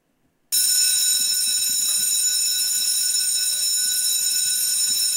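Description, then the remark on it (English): A loud electric school bell, pressed by a person, starts abruptly after a brief silence and rings continuously at a steady, harsh, high pitch until the end, with no voices. “Hang on, let me press the bell.”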